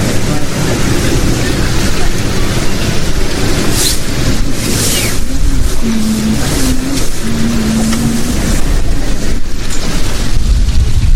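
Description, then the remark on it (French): A boat passes through a channel, its motor a loud, steady rumble layered with rushing water and wind noise, with a humming engine tone rising briefly partway through. “Un bateau passe dans le chenal.”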